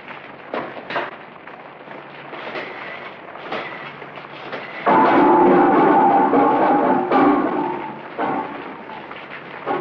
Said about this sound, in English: Oh, here comes the rain.